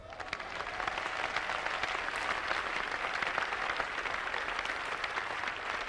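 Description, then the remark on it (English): An audience claps steadily for the full stretch, a dense, even patter of many hands with no pauses and no voices standing out. “I like your clapping.”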